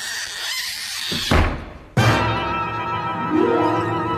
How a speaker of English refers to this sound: I said don't close the door. I didn't close it.